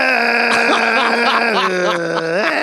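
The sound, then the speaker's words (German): A person vocalizes a sustained, nasal, wavering call that slides down and then back up in pitch, mimicking a seal's bark-like moan, fairly loud with no other sounds. “Das ist ein 1:1 Seehund.”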